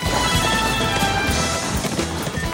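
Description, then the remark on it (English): Rapid, rhythmic hoofbeats of a galloping horse, ridden by a man alongside a moving train, pound loud over the train's dense, continuous rumbling roar, with no voices. “He mounts a horse and is riding alongside the train when the children's mother calls his cell phone.”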